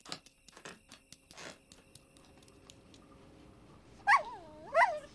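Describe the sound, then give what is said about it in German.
A dog gives two short, high whimpering yelps near the end, rising and falling in pitch, following a few faint clicks and taps in otherwise quiet surroundings. “Und jetzt auch noch der Köter.”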